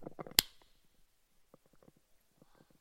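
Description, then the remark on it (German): A single sharp hand clap, clapped slowly to hear the reverberation, rings out in a very large hall with many walls, its echo trailing off for a moment, with soft murmuring voices before and after. “Klatsch nochmal ein bisschen langsamer, dann kriegst du richtig den Hall mit.”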